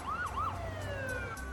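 Boston police car sirens wail with a rising and falling tone, sweeping up and down over the steady rumble of traffic in the Back Bay district, loud with no voices, as emergency patrol cars respond to wounded officers.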